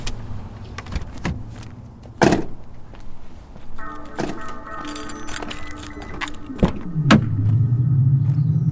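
A car door clunks open and later thumps shut as someone retrieves an item from the car, with keys jingling, a steady electronic tone in between, and a low engine rumble settling in at the end.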